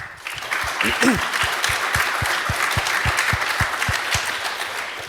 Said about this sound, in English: I would like to mention a few partners, especially, first of all, Emlix, which was supporting our conference as conference partner now for the fourth time, I guess. I think this is a big applause again.